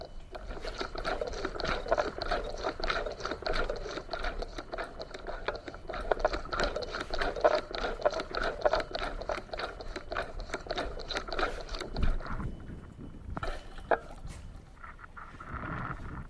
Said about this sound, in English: They're full of sloshy fluid. It squishes, it's moist, soft, viscous. And there's a spring in there. You can hear it sort of compressing and decompressing.